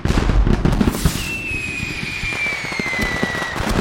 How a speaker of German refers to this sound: Ein großes Feuerwerk für alle.